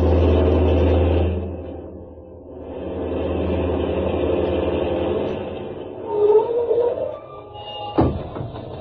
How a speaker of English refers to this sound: What's wrong with your engine?